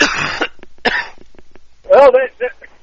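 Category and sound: human body sound, man coughing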